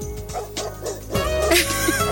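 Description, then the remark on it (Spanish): A small dog barks and yips in a quick series of sharp, high-pitched calls, fairly loud, with a steady background hum underneath. “Hay un perrito ahí.”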